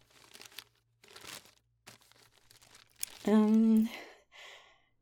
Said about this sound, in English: The paper is very cute though. I love the little puppies and party hats. Okay. Let me unwrap it.